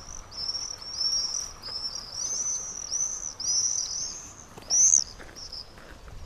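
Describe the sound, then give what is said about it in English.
Swifts give a run of shrill, buzzy screaming calls, repeating in quick bursts over a steady outdoor hiss, with one louder scream near the end. “They are a joy to watch and listen to.”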